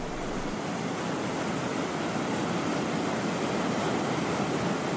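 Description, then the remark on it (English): A steady, unbroken roar of rushing water from a waterfall, filling the whole clip at a constant loudness with no voices. “The other four kayakers moved camp to the falls.”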